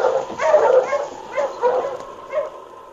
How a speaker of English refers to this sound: A short time later, Beulah Mott heard a dog team stopping outside the cabin.